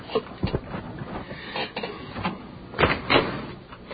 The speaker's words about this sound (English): You open a door? It's very specific. Okay, I'll go open the door.